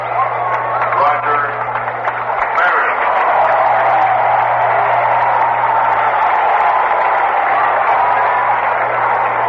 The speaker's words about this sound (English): Roger Maris is applauded by most as he comes to the plate, booed by a few because he broke Babe Ruth's record.